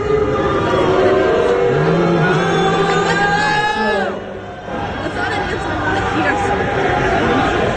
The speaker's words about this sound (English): The best part of that whole part of that booing interlude right there, the reason why you don't hear Henry saying anything is because he kind of just looks out at the crowd and shrugs.